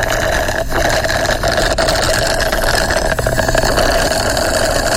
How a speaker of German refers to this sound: Warum hier gerade jemand extra laut einen Cocktail schlürft? Keine Ahnung.